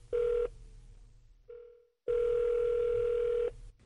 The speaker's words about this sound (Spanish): Ya estamos marcando el número de teléfono de la doctora Ismaray Ortega.